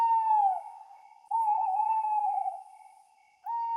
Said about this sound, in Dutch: Tot er, boven hem, plotseling een uil hard begon te roepen.